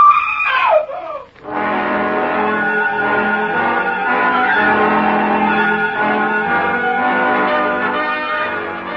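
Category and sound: human body sound, woman screaming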